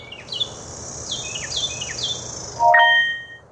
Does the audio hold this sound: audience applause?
no